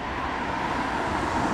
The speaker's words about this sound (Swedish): En bil stannar framför Four Seasons Hotel i Abu Dhabi.